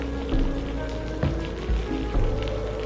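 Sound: heavy rain pattering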